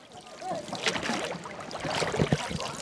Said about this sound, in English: A wooden boat lazily paddles the holy waters of the Ganges River, flowing before the fabled steps, or cots, of the sacred city of Varanasi.